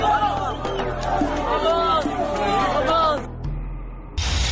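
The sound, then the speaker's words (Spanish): A large crowd of migrants entering Ceuta, the Spanish enclave in North Africa, shouts and calls out over one another in a dense, excited babble of voices. The clamor drops away after about three seconds, then a sudden burst of noise cuts in at the end. “Bueno, son las 9 de la mañana con 39 minutos y escuchamos varios sonidos, la entrada de migrantes a Ceuta la semana pasada, allá en la parte norte de África, este enclave español que está justamente en la parte norte africana.”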